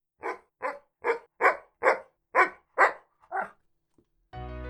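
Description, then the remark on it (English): A dog barks eight times in a steady rhythm, loud, with no one talking. A short burst of music follows the last bark. “We like to think that we're a nation of dog lovers, but sometimes we need help understanding our four-legged friends.”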